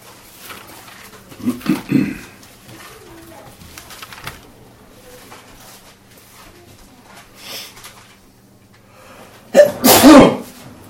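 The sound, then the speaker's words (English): A loud, sharp sneeze bursts out near the end after mostly quiet room tone, preceded by a softer pair of short bursts early on, likely a build-up or muffled sneeze. “God bless you.”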